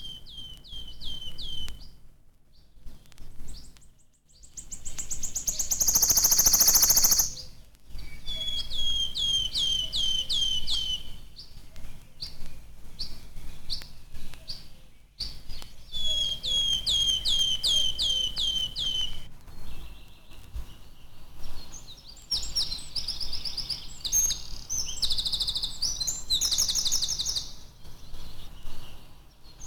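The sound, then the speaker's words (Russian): A bird repeats a thin, plaintive whistling call in short, high, clear phrases, alongside other chirping birds outdoors with steady background noise. “печальный свист”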